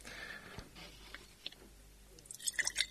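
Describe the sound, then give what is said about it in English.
Hot water trickles quietly into a glass jar standing in an ice cream tub, a soft steady splashing with a few faint glassy clicks, then brighter bursts of splashing and clinks near the end. No one speaks. “maybe an inch or so of hot water into the jar”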